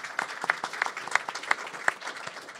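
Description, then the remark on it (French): A crowd claps steadily, with dense overlapping hand claps forming a continuous patter and a few sharper, louder claps standing out at roughly regular intervals. No one speaks. “Applaudissements.”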